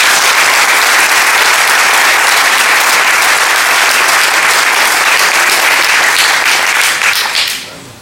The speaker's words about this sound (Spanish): A todos ellos, un caluroso aplauso.